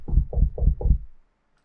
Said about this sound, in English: Let's not barge in too loudly. We'll just knock.